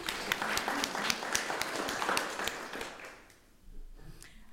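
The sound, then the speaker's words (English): A group of people gives a helper a clap, a dense patter of sharp claps for about three seconds before the clapping thins out and fades to a quiet murmur. “Let's give him a clap.”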